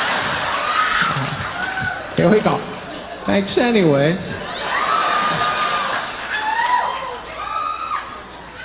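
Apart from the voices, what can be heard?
audience clapping and cheering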